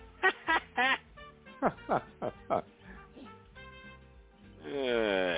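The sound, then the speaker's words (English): A string of short, sharp voiced bursts, then a long, loud, rumbling beer belch with a croaky, gurgling tone that carries on to the end. “Ah, beer belch.”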